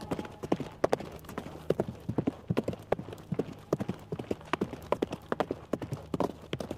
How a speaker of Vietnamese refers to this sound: Quả nhiên là tiếng vó ngựa. Ban đầu là đi từ từ, sau đó dứt khoát phi nước đại.